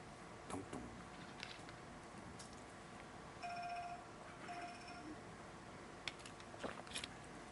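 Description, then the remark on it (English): A phone ringtone chimes in two short electronic bursts, a steady mid-high tone with a buzzy edge, faint over a low background hiss and a few scattered clicks. “If that was my ringtone, I would never hear it.”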